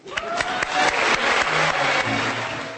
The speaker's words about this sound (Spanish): Ovación cerrada para el gran ausente de la noche, el escritor y traductor Jan Balaban, que no ha podido ver el éxito cosechado por su última obra.